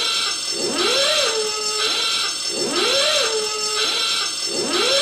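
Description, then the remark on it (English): A loud, harsh alarm buzzer sounds on its own, its tone sweeping up and warbling in a pattern that repeats twice: the wrong-answer signal of a British quiz show. “And if you get the answer wrong, you hear this sound.”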